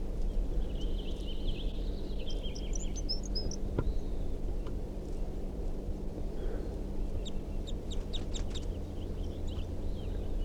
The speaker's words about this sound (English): There's a male here. He's giving some song phrases, and 327 is also giving some song phrases. Wild male.